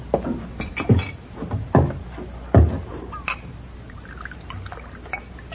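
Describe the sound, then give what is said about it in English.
A glass of rye whiskey ordered from a bartender is poured, a short run of liquid with a few sharp clinks and knocks spaced about a second apart, over a low steady background hiss. “Glass of rye, bartender.”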